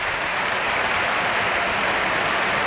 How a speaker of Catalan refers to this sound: També Deco, l'aplaudeix Riazor. L'Aragonès que torna als aplaudiments del públic gallec.